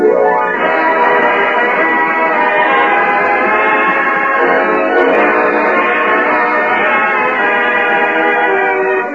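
An orchestra of 25 players plays a short, steady passage of music, full and loud throughout with sustained, rich harmonies and no voices.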